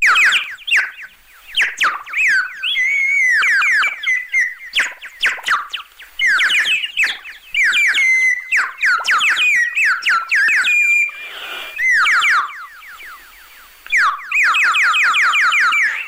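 A short electronic music track of about 18 seconds, made to imitate birdsong, with rapid chirping, warbling tones, quick pitch sweeps and trills in a high register, playing loudly and continuously with brief pauses and no voices.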